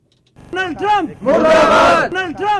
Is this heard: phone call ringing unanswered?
no